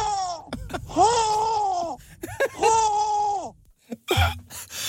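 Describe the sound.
A voice imitates a young lynx growl with two long, strained, wavering cries separated by a brief pause, followed by a short gasping grunt near the end.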